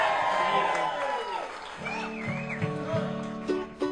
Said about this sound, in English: I'd like to thank XM Radio to be heard. Give them a loud little cheer just in case you get warmed up.